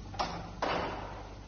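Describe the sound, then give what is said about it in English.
Two heavy door slams as doors are sealed and locked land about half a second apart, the second louder and ringing out longer, with no voices and a low steady hum underneath. “Seal the doors.”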